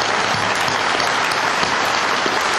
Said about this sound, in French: Vous devez les applaudir. Vous devez les applaudir, voilà.